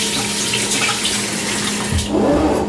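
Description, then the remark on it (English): Four ounces of water runs steadily into a measuring cup for a few seconds, a continuous splashing pour with a faint rising tone near the end as the cup fills. “4 ounces of water.”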